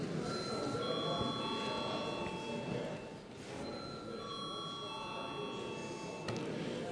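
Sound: parliament voting bell ringing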